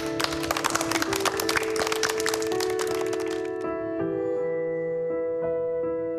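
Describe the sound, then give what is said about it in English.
A short burst of dense, crackling audience applause for the special guests present that evening rides over steady music, then dies away about halfway through, leaving the sustained music playing on its own. “So will we give a little round of applause to the special, special people here this evening?”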